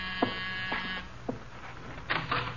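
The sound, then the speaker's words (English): A door buzzer sounds one steady, harsh electric drone for about a second, then cuts off, leaving a few soft clicks and knocks. “The door, Archie. Yes, sir. I hear it.”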